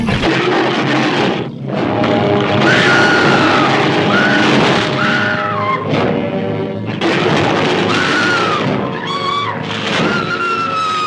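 A huge, deep King Kong roar, made from a tiger's roar played backward in slow motion, repeated four times to 30 seconds and mixed with a piece of dog bark, rumbles loudly and almost without pause, mixed with crashing, thunder-like booms and shrill, wavering high cries sweeping up and down over the din.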